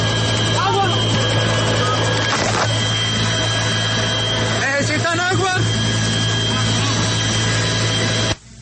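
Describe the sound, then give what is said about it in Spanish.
A loud, steady helicopter drone of engine and rotor noise fills the whole recording, during an army rescue of farmers who were flown to a safe place in the city of Cúcuta, with a few voices calling out briefly over it before it cuts off abruptly. “Pues una vez fueron trasladados en helicóptero o hasta un lugar seguro, esto dijeron los rescatados a los uniformados del ejército.”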